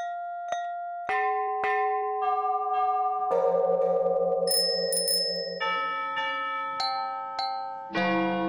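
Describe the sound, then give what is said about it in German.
Church bells ring alone in an irregular sequence of about a dozen strikes at differing pitches, each tone humming on and overlapping the next in a loud, resonant metallic wash. “Zusammen mit Julius, Michel, Tara, Lina und Ivan aus Leipzig hat sie versucht, die geheime Sprache der Glocken zu erforschen.”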